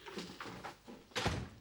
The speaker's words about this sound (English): Charlie shuts the door and turns to Jake, who glares at him with arms folded.